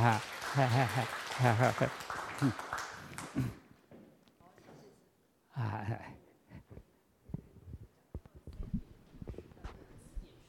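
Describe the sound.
A voice speaks at first, then after a short lull a small audience claps: a sparse, uneven scatter of light handclaps that stays fairly quiet and trails off.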